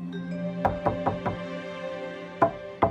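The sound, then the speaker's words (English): Two people knocking on a bathroom door from both sides: a quick run of four raps, a pause, then two more sharper knocks, clear over a steady low hum, with no voices. “They both knock.”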